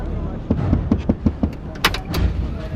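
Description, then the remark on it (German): A man opens the door of his pickup truck: a run of quick mechanical clicks, then a sharp latch clack and a heavier thunk as the door swings free. “öffnete die Tür seines Pickups und ging langsam auf meinen Jeep zu.”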